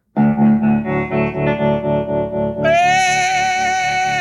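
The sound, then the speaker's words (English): A classic rock song plays loudly, opening with a steady pulsing guitar rhythm, then swelling into a fuller, brighter, sustained sound partway through. No one speaks. “For the first song I'll be playing, I chose to play it first because my mom starts my day every morning by playing this song as my alarm.”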